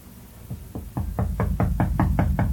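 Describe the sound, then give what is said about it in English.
Someone knocks on a door in a steady series of about nine raps, starting softer and growing firmer and louder, with no voices. “someone is at the door. Please go see who it is.”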